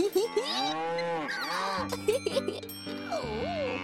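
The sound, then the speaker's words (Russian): A herd of cows at the edge of a forest in Arcadia moo in overlapping, drawn-out calls that rise and fall in pitch, loud, with deeper sustained lows joining partway through and no one speaking. “И потому уже через час, а может через два, он отправился на поиски новых приключений и скоро наткнулся у опушки леса на стадо божественно красивых коров.”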